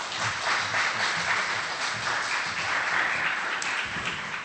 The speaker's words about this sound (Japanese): まずはとりあえず先生お二人をお迎えしたいと思っております。じゃあよろしく拍手を持ってお迎えしましょう。